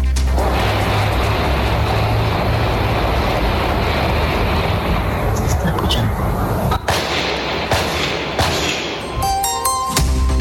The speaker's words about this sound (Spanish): Pasemos ahora a escuchar un ambiente de estos disparos.